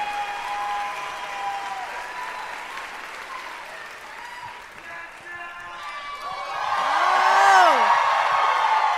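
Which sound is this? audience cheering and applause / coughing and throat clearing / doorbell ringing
audience cheering and applause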